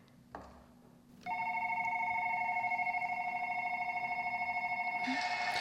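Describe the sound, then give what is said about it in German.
A steady, electronic ringing tone with a bright, buzzy warble, a telephone ring played on an electronic keyboard, starts after a brief soft click and sustains continuously to the end. “Mal schauen, wie wir zum Telefon gehen.”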